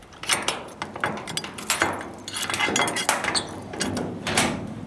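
A key rattles and clicks in a lock, followed by a series of sharp metallic clacks and scrapes as a container's door or lid is unlatched and pulled open. No one speaks.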